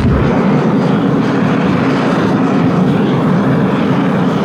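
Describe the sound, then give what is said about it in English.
A loud, steady roar of aircraft engines starting up, dense and holding at an even level throughout with a low rumbling core and no voices. “The engines roar to life as inside, the Rangers are seated and buckle up.”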